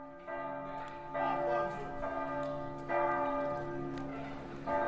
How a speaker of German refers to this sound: Datensonifikation gibt es, Achtung, seit dem Mittelalter. Und zwar durch Kirchenglocken, die die Stunden schlagen.